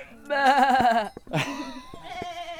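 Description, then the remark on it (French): A person imitates a sheep's bleat with a loud, quavering, goat-like vocal cry, followed by a second, shorter and rougher bleat attempt and a softer wavering tail. “On dirait une chèvre là plutôt.”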